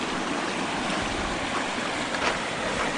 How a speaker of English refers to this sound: There we are. The update of the floodwaters of Chattahoochee Creek.